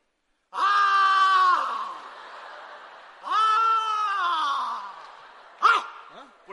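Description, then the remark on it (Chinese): A man yells loudly in three long, strained, wavering bursts with a quavering, almost bleating quality, the last one short and sharp, with no other sounds. “你叫是嚷嚷什么呀？”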